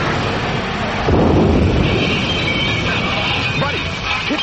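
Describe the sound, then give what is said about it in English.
A loud crash of thunder like a lightning strike bursts in after a second and rolls on as a heavy rumble, with faint voices underneath near the end. “Crawl away from the lightning.”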